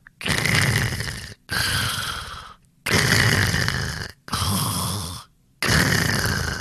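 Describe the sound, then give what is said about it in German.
Five loud, rasping snores in a steady rhythm, each a long rattling breath of just over a second with brief quiet pauses between, with no talking. “Der Dino schnarcht sogar.”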